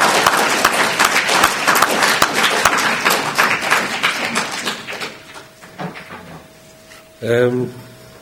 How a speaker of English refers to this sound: And I'd like you to clap your hands for them.